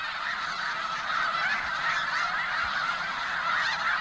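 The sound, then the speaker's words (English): A dense, continuous chorus of migratory snow geese honking from a huge flock at sunset in winter at the Bosque del Apache National Wildlife Refuge in central New Mexico, hundreds of overlapping calls blending into a steady, loud wall of sound with no pauses. “Here at the Bosque del Apache National Wildlife Refuge in central New Mexico, sunset is marked by huge flocks of snow geese and sandhill cranes.”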